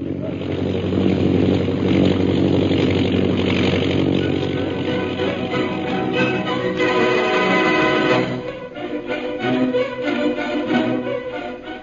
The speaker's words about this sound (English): An airplane flying toward the pass ahead.